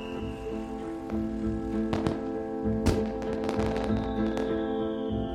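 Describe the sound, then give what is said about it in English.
Distant fireworks pop and crackle sporadically across the city on bonfire night, heard from the banks of the River Thames between Kingston and East Molesey: a handful of sharp bangs scattered over several seconds against a steady low droning hum in the background. “It's bonfire night, and fireworks are starting to go off across the city.”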